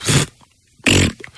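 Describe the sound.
Two loud, buzzy mouth fart noises, a person blowing a raspberry with the lips, about half a second apart, each short and sputtering, with near silence between them.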